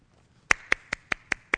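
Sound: hand clapping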